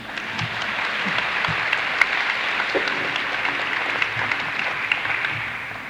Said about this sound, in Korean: 안녕하십니까? 그 대부분 이렇게 인사를 하면 박수를 치더라고요.